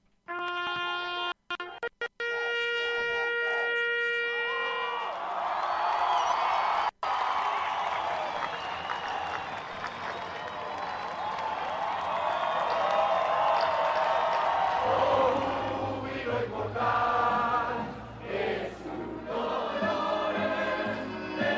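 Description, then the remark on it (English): People in the streets cheer and shout after an agreement was signed, in a dense, roaring wash of voices, with whistles and horn-like tones early on. The loud, sustained din swells and persists, with individual shouts rising above it. “We're going to hear this audio here now from an Associated Press video of people in the streets cheering, and you'll hear a guy, and I'll translate it afterwards.”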